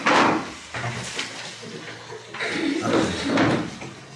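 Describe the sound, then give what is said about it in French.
A door swings shut, with a few wooden thuds and rattling bumps spread over several seconds, moderately loud, with faint background murmur. “J'espère qu'il n'y a personne derrière la porte.”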